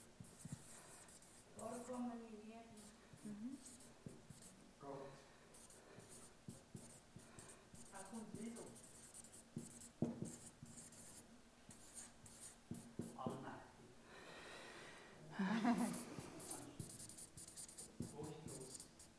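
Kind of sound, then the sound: household object, pen writing on paper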